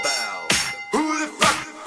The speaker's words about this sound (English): The bell.